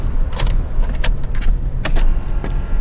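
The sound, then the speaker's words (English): An electric car starts up with three sharp clicks spaced irregularly over a steady low hum, with no engine rumble and no one speaking. “Just three clicks and her electric car is running.”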